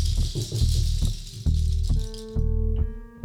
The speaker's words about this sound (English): She shakes the rattle she holds.